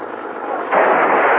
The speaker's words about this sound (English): Hey, they crashed into my car. They cracked me up.